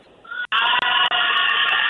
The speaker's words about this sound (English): Well, today is the first day of merchandise sales. In fact, I'm standing in the line. I'm on Gerrard Street with about 75 people. You want to hear from them? Yeah. Hey, everybody. Say hello to Tommy Tucker on the radio.